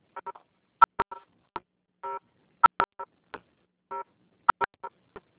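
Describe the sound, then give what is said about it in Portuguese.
Cell phone keypad dialing tones: someone typing on a phone, a quick, irregular run of short electronic beeps, some in pairs or small clusters, a few held slightly longer, with no voices. “Gente, tem alguém digitando, não dá para ouvir.”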